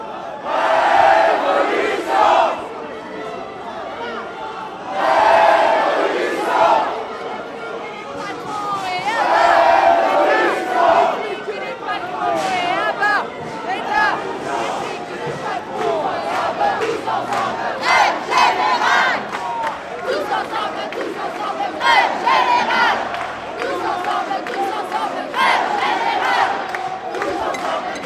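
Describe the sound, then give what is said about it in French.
A large protest crowd at a wildcat street demonstration, marching along the quays of the Saône on the presqu'île, chants loudly in repeated rhythmic bursts, with a constant roar of many voices, shouts and cheers filling the gaps between chants. “Ça part en manif sauvage, effectivement.”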